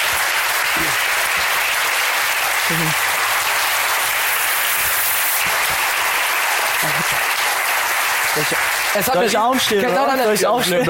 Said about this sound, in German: Dafür nochmal einen ganz fetten Applaus.